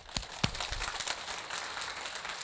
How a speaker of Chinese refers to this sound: 他们愿意这样把传统的诗歌融入敬拜中，我们感谢他们，来鼓掌一下。